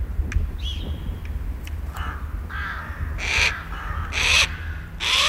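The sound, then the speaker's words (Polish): A bird of prey gives a series of harsh, screeching cries, used to scare off other birds, about five rising bursts that grow louder toward the end, over a steady low rumble of background noise. “Tak, krzyk ptaka jest, może dla nas nie jest jakiś tam głośny, ale oni słyszą i reagują natychmiast.”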